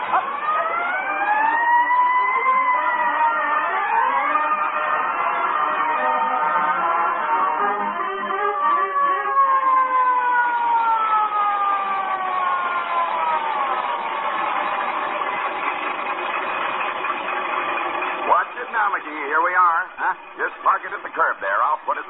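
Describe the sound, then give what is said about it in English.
A fire truck siren wails loudly and continuously, its pitch sweeping up and down in long rising and falling cycles, then breaks into a choppier pattern near the end. “Boy, when I roll past the Elks Club with a siren going 70 and me going 30”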